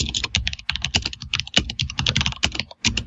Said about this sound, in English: I'm typing obviously to remember.